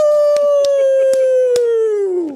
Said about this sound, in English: So listen to the blue and white wolves howling at the moon in Dallas.